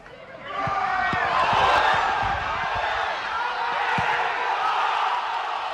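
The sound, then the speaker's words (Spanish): A stadium crowd erupts in a loud, sustained roar of cheering and shouting after Moscardó's second goal, scored by Telis in a 2-0 win over Unión Adarve, with scattered thumps and claps punctuating the dense wall of voices. “Fíjate cómo se escuchó ese segundo gol.”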